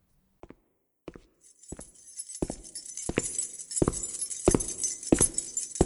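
Nurses in heavy shoes march past the doors through the night in a steady, even rhythm, each footstep a sharp thud growing slightly louder, while the many keys on their belts jangle continuously alongside from the second step onward.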